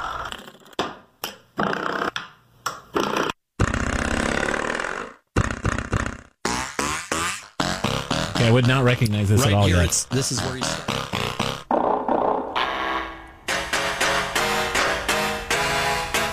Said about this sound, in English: door springs. That's what this is. It's a. Every one of these sounds is a door spring. It's a hammer.